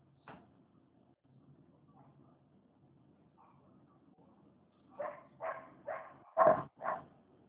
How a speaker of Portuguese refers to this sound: Eu tô escutando o teu cachorro, mas desculpa. Ela tá lá fora, ela tá parando.